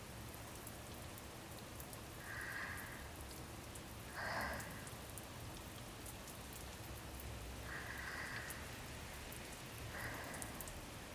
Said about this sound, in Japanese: 目をつまったまま少し深呼吸してみてください。雨の香りを胸いっぱいに吸い込みましょう。